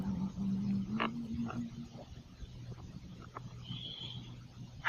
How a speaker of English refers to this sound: The katydid start chirping close. Way off toward the hills, the coyotes took up and answered them.